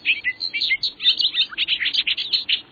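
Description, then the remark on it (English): A male bobolink, a migrant that returns to the meadows of Sunkhaze in Maine from as far as Bolivia, sings a rapid, bubbling, jumbled stream of tinkling notes, continuous with no pauses across the few seconds and nothing else audible behind it. “And that singing bobolink?”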